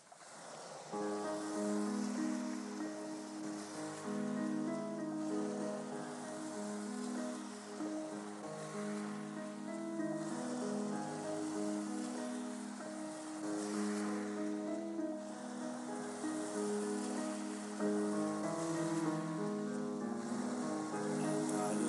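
A song's instrumental intro plays at steady volume, layered sustained tones shifting slowly over a soft, washing wave-like texture, with no voices.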